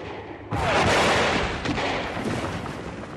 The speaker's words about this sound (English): Far in the distance, I could see the airships. They were firing large guns at the green warriors. I heard huge explosions.